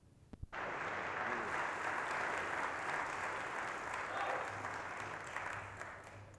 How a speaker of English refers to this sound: I wish you wouldn't applaud for me like that. It's embarrassing.